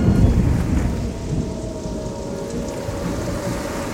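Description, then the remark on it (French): A tropical storm over the Caribbean: heavy rain pours steadily while deep thunder rumbles, loudest at the start and then rolling on beneath the constant downpour, as wind blows and the sea is rough. No voices. “Le lendemain matin, jeudi 25 janvier, une tempête tropicale s'abat sur les Caraïbes. Le tonnerre ronde, le vent souffle et la mer est agitée.”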